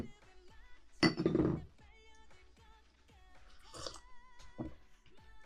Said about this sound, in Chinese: 干杯